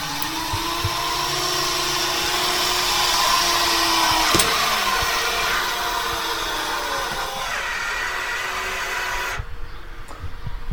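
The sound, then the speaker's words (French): A steady, loud motor whine with droning harmonic tones runs for about ten seconds as the telescope dome's motors open its shutters, marked by a sharp clunk midway before the machinery slows and cuts off near the end. “Ici, vous allez entendre les moteurs, les capots vont s'ouvrir.”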